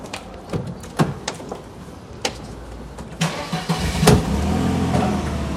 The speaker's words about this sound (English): Outside, Soso and Manana descend a stairway. Soso takes off his jacket and opens a car door. Manana walks around to the passenger side and gets in.